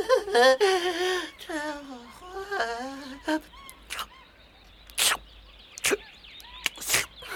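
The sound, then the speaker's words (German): A baby elephant greedily sucks from a warmed milk bottle while being fed on someone's lap: a few high, whining squeals first, then short, loud slurping bursts at irregular intervals, with no talking. “Meine Güte, ist der gierig. Wie heißt er denn überhaupt? Wie? Wie er heißt? Oh, er hat noch gar keinen Namen. Der nuckelt ja ganz toll.”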